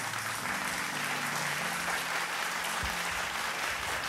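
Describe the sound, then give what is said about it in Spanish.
A church audience applauds steadily in praise of God, a dense, continuous wash of clapping that holds at an even level for several seconds, with a faint low hum or organ tone underneath. “¿Por qué no aplaudes la grandeza de tu Dios?”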